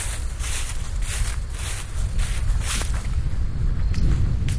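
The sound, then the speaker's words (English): Steady, rumbling wind buffets the microphone outdoors, a loud low roar with gusty surges, accompanied by faint rustling and shuffling of leaves throughout. “Oop, windy.”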